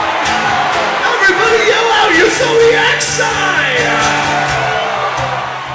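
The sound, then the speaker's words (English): A large concert crowd in Minneapolis yells out their zodiac signs all at once, a dense roar of overlapping shouts and whoops that stays loud and steady for several seconds before easing slightly. “Everybody yell out your zodiac sign.”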